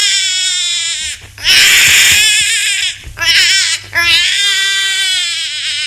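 A child cries loudly in long, wailing bursts, the pitch wavering and rising between sobs, with a few short breaths in between. A steady low hum runs underneath.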